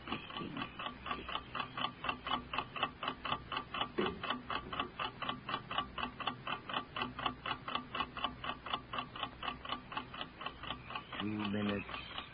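household object, clock ticking

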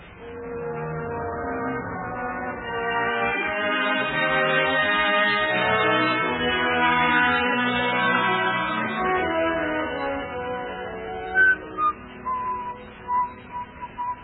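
human body sound, person whistling

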